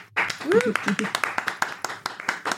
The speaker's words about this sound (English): Please give a big round of applause for Belle Rabirati.